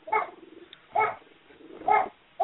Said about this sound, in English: Someone has a vicious dog, I can tell. Hear it? Yes. Oh, he's a doll. I know. Grouchy.